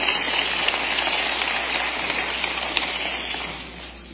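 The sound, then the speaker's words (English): An audience claps steadily in praise of the Lord, a dense, continuous patter of many hands that holds level before easing off slightly at the end. No one speaks. “Let's give the Lord another hand clap of praise tonight.”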